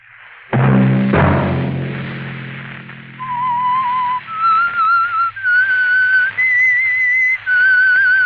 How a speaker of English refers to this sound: That whistle be your signal for the Signal Oil program, The Whistler, each Sunday night at this same time.